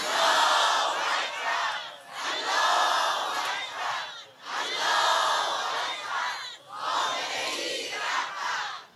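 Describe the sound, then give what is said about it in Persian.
A large crowd chants "Allahu Akbar" in unison, four loud, evenly spaced bursts of massed voices with short breaths of quiet between each repetition. “فریاد بزن الله اکبر.”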